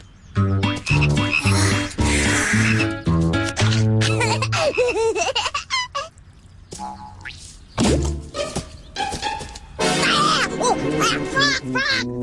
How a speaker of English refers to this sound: Frog!